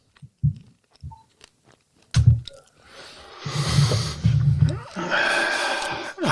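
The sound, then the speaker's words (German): Wet smacking and chewing noises, a few scattered clicks at first, then denser munching mixed with rustling and soft snorts, fairly loud, with no talking. “Schmatzen und Nästen.”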